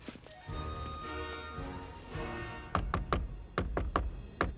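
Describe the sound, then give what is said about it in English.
A person dressed as Santa knocks on a door, about six firm raps in an uneven series, fairly loud, following a few seconds of steady background sound. “Santa knocks at the door, and another Father Christmas appears at a sliding window.”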